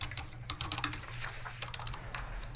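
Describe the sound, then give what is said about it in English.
Rapid, uneven clatter of a sticky computer keyboard's keys being typed, a steady stream of clicks over a low background hum, with no voices. “I'm going to blame it on the sticky keyboard.”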